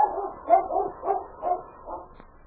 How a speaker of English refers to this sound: With hair bristling, she stood a moment looking down the trail toward town in the direction King had gone. And then, with a savage bark, Whitey turned and headed up trail.